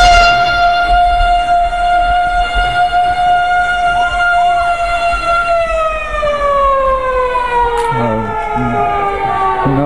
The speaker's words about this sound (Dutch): Sirene, draagbare.